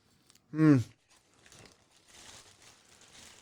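A Volkswagen Beetle car being crushed: a brief, loud, metallic screech, then a quieter stretch of grinding, crunching and crumpling noise that continues unevenly to the end.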